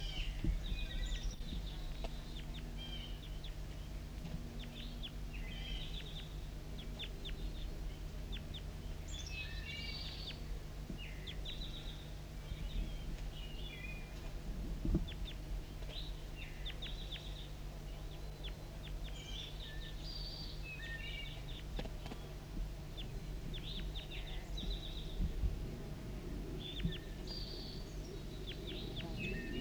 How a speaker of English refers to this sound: We're recording close contact calls of a wild bird. Stop. So we're recording close contact wild bird again at 10:17 a.m.